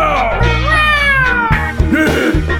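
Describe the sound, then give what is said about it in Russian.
A drawn-out, wavering meow, most likely a human voice imitating a domestic cat, sung loudly in a rap track over a steady thumping beat with bass, lasting a couple of seconds. “И домашний кот!”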